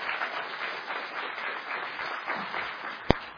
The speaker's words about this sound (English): If you're glad they're here, give them a good round of applause.